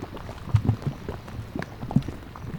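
Thick, low bubbling mud at the Fountain Paint Pots mud pots in Yellowstone plops and burps at irregular intervals, with a few louder gloopy pops standing out over a soft, steady background murmur.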